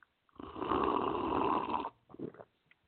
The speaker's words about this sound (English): Burp.